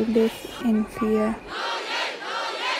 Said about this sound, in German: Trotz Kriegsrecht und Versammlungsverbot gehen im ganzen Land immer noch Hunderttausende auf die Straßen. Es ist unsere Aufgabe, skandieren die Demonstranten.